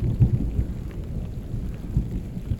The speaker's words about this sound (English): Now it's raining. And after the ache of a dry month.